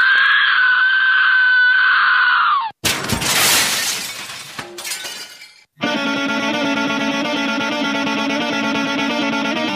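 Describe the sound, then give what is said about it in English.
A loud, noisy burst of crowd screaming lasts a few seconds at the opening of the Corey and Joel Radio Show, sandwiched between a sustained high electronic tone and a stretch of dense, steady music. “Now somebody, anybody, everybody scream.”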